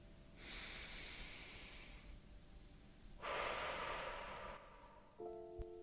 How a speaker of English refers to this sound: Let's begin. Take a breath in and breathe out with a sigh. And take another.